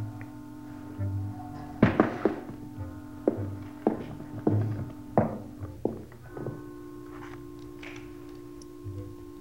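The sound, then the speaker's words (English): A ventilator cover on a wall being shifted as somebody comes out through it: a run of about eight sharp metallic clunks and knocks at irregular intervals, over a steady low electrical hum, then the hum continues alone. “Somebody's moving something. Yeah, sounds like a ventilator, doesn't it?”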